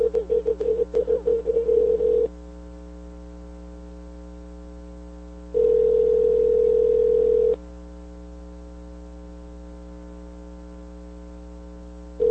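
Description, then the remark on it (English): A phone call being placed: a quick burst of choppy dialing tones, then a steady buzzing ring tone that sounds for about two seconds, pauses, and starts again, over a faint electrical hum. “Let's see if we can get him on the phone here.”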